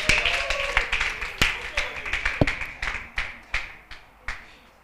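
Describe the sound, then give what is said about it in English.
A church audience gives a clap offering: a dense burst of sharp, overlapping claps that thins into a slower run of separate, uneven hand claps, with faint voices murmuring underneath. “Give them a big clap offering.”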